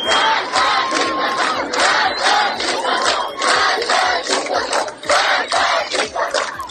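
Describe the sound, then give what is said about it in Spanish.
A large protest crowd in Iran chants slogans such as "death to the dictator", aimed at supreme leader Ali Khamenei, and "Woman, Life, Freedom" in loud, rhythmic unison, the shouted phrases repeating in a steady beat with little pause between them. “Manifestaciones en las calles y en las universidades de todo el país, gritos de muerte al dictador, en referencia al líder supremo Ali Khamenei, y el eslogan Mujer, Vida, Libertad.”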